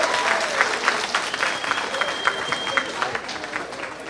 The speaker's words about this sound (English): Didn't they do good? Give them one more applause. Woo!